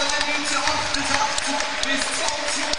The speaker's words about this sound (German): Und jetzt nimmt er seinen Abschied unter dem Applaus von allen Zuschauerinnen und Zuschauern hier im St. Jakob Park. Bekommt hier eine wohlverdiente Standing Ovation.